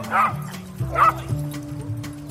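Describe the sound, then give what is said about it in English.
A person imitates a dog barking, giving two short, loud woofs about a second apart over a steady low background tone. “And although I don't currently own a dog, I do enjoy barking like one.”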